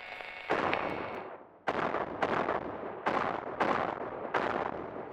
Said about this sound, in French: Ils ont recommencé à tirer. Mais leurs balles et grenades rebondissent sur le bouclier invisible. C'est étrange, ça fait un bruit bizarre, comme un impact contre de la roche, mais comme si on l'entendait de loin, et à travers un oreiller.